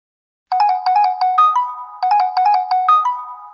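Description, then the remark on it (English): A telephone rings with a bright electronic melody, a quick run of chiming tones that ends on a held note, played twice with no voices. “Hello, who's calling, please?”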